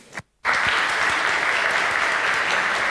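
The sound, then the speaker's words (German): After a brief moment of quiet, a crowd breaks into loud, sustained applause for the speaker FXRH at the start of a talk on electing a ship's captain by message in a bottle and online voting, dense overlapping clapping that holds steady to the end, with no voices audible. “Einen kräftigen Applaus für FXRH, bitte.”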